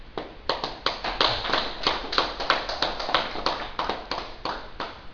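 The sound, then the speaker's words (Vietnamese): An audience at a Buddhist dharma talk claps steadily, a dense patter of many hands that stays fairly even in loudness, without any talking over it. “Một cái hình ảnh mà mới đây rất là đẹp mà xin đại chúng vỗ một tràng pháo tay cho cô”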